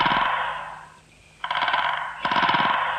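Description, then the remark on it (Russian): A woodpecker drums on a tree far away in a windless forest on a quiet, bright morning, in three rapid, resonant rolls: the first fades out, then after a short pause two more sharp bursts follow, each a fast, even rattle of knocks. “Дятел дерево долбит.”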